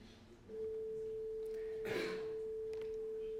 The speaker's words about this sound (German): Ja, jetzt haben wir hier, also zunächst mal einen Sinuston zu hören. Das ist ja nicht so furchtbar schwierig. Wir machen vielleicht noch ein kleines bisschen lauter.